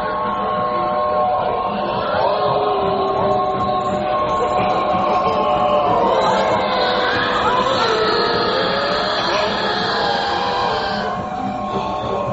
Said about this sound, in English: There we saw our very old train pass with black smoke and an organ playing, but nobody playing.